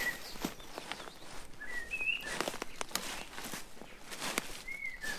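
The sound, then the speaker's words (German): Footsteps crunch and rustle through dense brush on the bushy edge of a forest at an unhurried walking pace, while birds chirp and whistle intermittently in the background. No one speaks. “Ein paar Schritte durch den buschigen Waldsaum, dann stehe ich vor einer Ackerfläche.”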